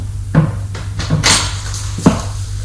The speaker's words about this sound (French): Elle ouvre une porte et le fait entrer.